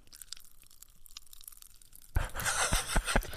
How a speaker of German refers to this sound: Lass das mal so im Mund ein bisschen so. Es knistert. Mhm. Geil. Die Dinger sind wie Magic Gum. Die knistern. Hört ihr?